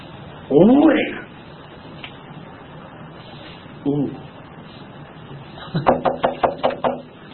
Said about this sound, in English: I go to his front door of his house. Knock on the door.